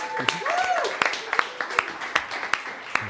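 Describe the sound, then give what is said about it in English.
Steady, rhythmic clapping from an audience at the end of a service, sharp claps landing in an even beat, with murmuring voices and a brief vocal sound mixed in underneath. “Yeah, we clap for you.”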